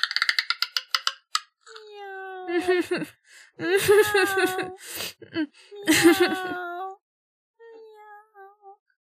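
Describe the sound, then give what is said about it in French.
A door creaks open: a quick run of ticking clicks gives way to long, drawn-out groaning squeals that rise and waver in pitch, fading to a faint final squeak. “La porte grince.”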